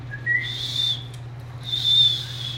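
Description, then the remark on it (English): A person who cannot whistle tries to, making two breathy, airy attempts where a thin, wavering high tone barely forms through the rush of air. It's fairly quiet, with a steady low hum underneath. “I can't whistle. Can someone teach me to whistle?”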